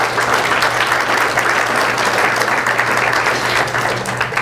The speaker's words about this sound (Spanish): Den un aplauso fuerte al Señor por eso.